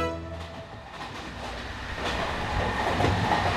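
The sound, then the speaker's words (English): A night train rumbles steadily along the rails with a dense, continuous clatter, growing slightly louder toward the end, with a brief tonal hum near the start. “Ah, the night train.”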